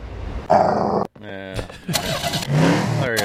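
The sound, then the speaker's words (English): An internal combustion engine cranks and sputters roughly to life, with uneven coughing bursts and a brief cutout before a growling, revving rumble takes hold, loud. “Sam Morey patented the internal combustion engine”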